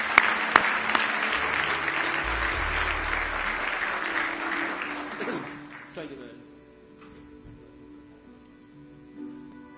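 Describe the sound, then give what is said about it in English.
An audience at a church service claps hands in praise. The applause is a dense, steady burst for about six seconds, then fades out, leaving faint murmuring and a low tone behind. “Give him another big hand clap of praise.”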